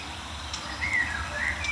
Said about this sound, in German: Neben mir ist auch eine aufgeregte Mönchsgrasmücke. Mild aufgeregt, würde ich sagen.